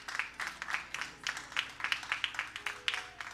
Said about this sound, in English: Please give her a hand as she comes forward.